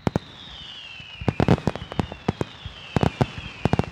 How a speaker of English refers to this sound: The last fun event of the day, fireworks.